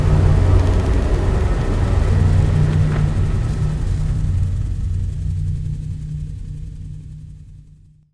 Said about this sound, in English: The storm's getting rather bad.